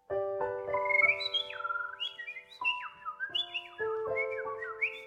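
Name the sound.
birds singing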